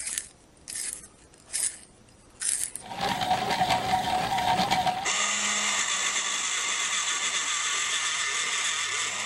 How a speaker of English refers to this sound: All right, that's not the takeaway carpentry shop. No, all of those were pencil sharpeners.